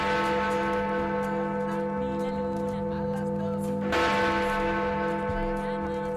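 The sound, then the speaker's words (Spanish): The huge, deep 13-tonne Big Ben clock-tower bell chimes, its low resonant toll ringing on and fading slowly before a second strike rings out, loud and sustained with a long humming decay. “Bueno, no están mal las campanadas del Big Ben de fondo para felicitar”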